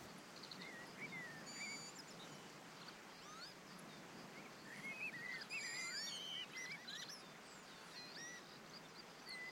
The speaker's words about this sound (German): Ich genieße diesen Sommertag und die frische Luft des Waldes. Mein Atem wird ruhiger und freier und ich lausche entspannt dem Vogelgezwitscher um mich herum.